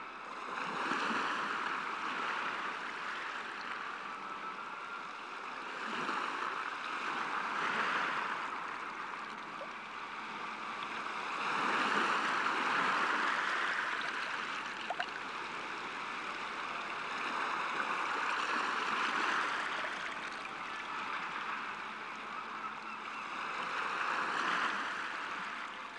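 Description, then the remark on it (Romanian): River water rushes steadily toward the sea shore, a continuous broad wash that swells and eases every few seconds like current meeting the shore. No voices are heard. “a pornit de-a lungul râului până a ajuns la malul mării.”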